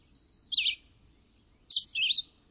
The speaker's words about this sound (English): But the North American record holder may well be the red-eyed vireo. One such vireo delivered its short song over 22,000 times in 10 hours.